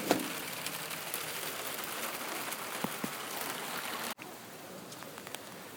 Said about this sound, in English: This is all the rain coming down. and I hear the rain hitting the patio here.